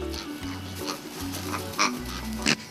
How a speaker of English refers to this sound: And here's another big word associated with this little dog. Pharyngeal gag reflex, where sometimes air goes rapidly up their nose like a reverse sneeze and momentarily makes them snort like a goose.